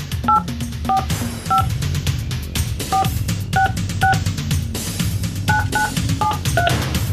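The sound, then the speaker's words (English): Around ten touch-tone keypad beeps sound in uneven bursts as a phone number is dialed in a radio studio, each tone short and clear, layered over a steady low background bed. “Let's make the phone call this morning.”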